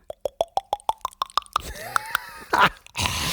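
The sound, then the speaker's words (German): Someone imitates with their mouth the sound of beer glugging as another drink is poured into a glass: about nine quick, hollow plops that rise steadily in pitch, followed by a stretch of breathy, hissy noise. “Ja, dann ich gieß nochmal nach. Klock, klock, klock. Komm, mach, du kannst das Geräusch nochmal.”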